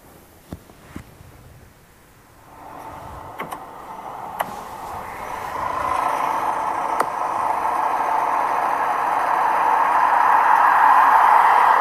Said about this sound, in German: Das war ein vorbeifahrendes Auto.